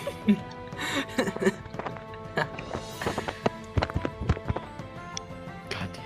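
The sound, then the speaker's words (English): Imitated horse hooves clip-clop in a steady run of sharp knocks lasting several seconds, with a few louder hits mixed in and faint background murmur underneath. “starts with the horse.”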